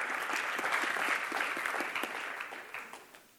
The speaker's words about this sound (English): I really appreciate you clapping, but I just kind of nodded and repeated back what they said, but thank you.